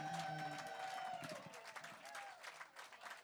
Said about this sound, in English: I just want a big round of applause for Chuck for holding it together today